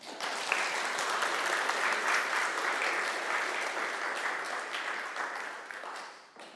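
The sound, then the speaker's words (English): A crowd claps steadily for several seconds, a dense, even wash of many hands that holds at a fairly strong level before tapering off at the end. “I think that should have applause.”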